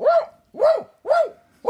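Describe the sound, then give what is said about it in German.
A dog barks repeatedly in a steady rhythm, about four loud barks roughly half a second apart, with no other sounds around them. “Oh, eine Tür geht auf. Ein Hund.”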